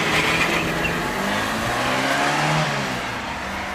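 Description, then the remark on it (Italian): A car engine turns over and runs loud, its motor droning steadily with a slight rise in pitch as it revs, with no voices present. “Sta accendendo la macchina.”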